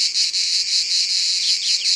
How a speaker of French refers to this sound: Elles sont plusieurs dans ce bosquet. On ne les voit pas, mais quel vacarme pour des insectes de 3 cm. Chez les cigales, c'est comme chez les oiseaux. Les mâles chantent pour attirer les femelles.